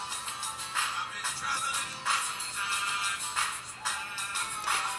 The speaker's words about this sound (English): You can see you can also exit the music player and continue working with the phone as your music's playing.